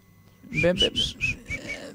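A person whistles through the lips in a quick run of about six short, bright notes, moving slightly up and down in pitch, with a low murmur of voice beneath.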